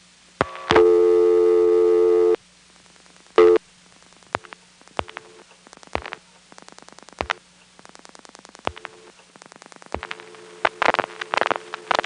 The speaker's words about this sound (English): I'm now going to demonstrate ringback, which you get by dialing your own number. And when you pick up your phone after it's rung, you hear a ringtone as a party line signal.